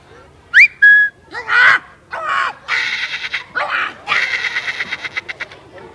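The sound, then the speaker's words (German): A professional animal-voice imitator imitates a parrot with a rapid series of shrill whistles, squawks and raspy chattering calls, loud, with no other talk. “Ein Papagei, ja, ihr habt aber gute Ohren.”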